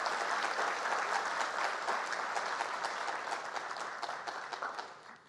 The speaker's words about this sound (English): We can give him a welcome round of applause. We can do that.